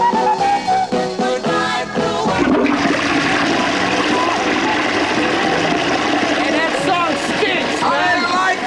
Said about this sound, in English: Flush it!